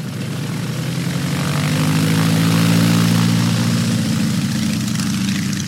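propeller biplane engine flying

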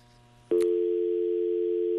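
telephone dial tone

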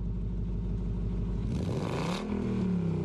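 car engine revving

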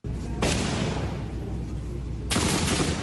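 gunfire

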